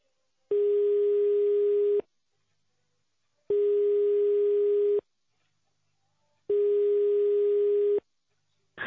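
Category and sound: signal or alarm, telephone ringback tone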